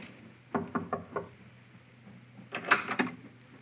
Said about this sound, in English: Captain knocked.